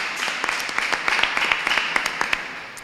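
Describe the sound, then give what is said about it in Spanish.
An audience at the morning presentation of an art exhibition applauds warmly, at the host's request, for an artist from Cartagena, many hands clapping steadily for about three seconds in a dense, crackling wash with sharper individual claps popping out, then tapering slightly at the end. “Un caluroso aplauso.”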